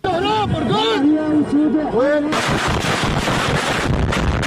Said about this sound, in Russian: Мощные взрывы раздаются в сирийском Алеппо, на шоссе рядом с университетской больницей.